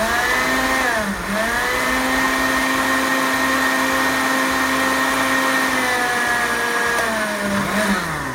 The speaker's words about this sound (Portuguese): E eu vou adoçar isso aqui, vou fazer sem açúcar, mas vou adoçar com tâmara, sem caroço. Eu deixei ela hidratada aqui, olha. Vamos pro liquidificador. E vamos bater. Bate, bate, bate, bate. Yes!